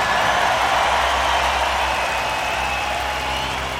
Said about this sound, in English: Let's hear from …. Give him a round of applause, come on.